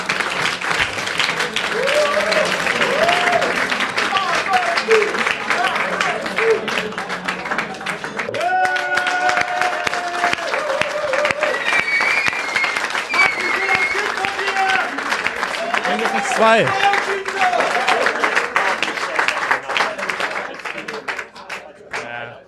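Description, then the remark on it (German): A live audience breaks into sustained applause for two guests at a live show, dense steady clapping lasting over twenty seconds, with cheers and shouting voices rising through it at moments. “Aber zunächst bitte ich erstmal schon mal für einen tosenden Applaus für die beiden und wir sehen uns in einer Viertelstunde.”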